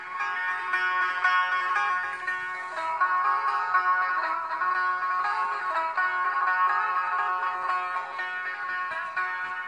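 Solo setar playing, a steady stream of bright plucked notes with ringing overtones, delicate and continuous throughout, with no voices.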